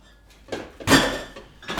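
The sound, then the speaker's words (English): A bottom drawer slides open and shut with a few scraping, clattering bursts, the loudest in the middle, with a faint rattle of contents like utensils. “It's in the drawer there on the bottom drawer. Grab one from the right side of that drawer.”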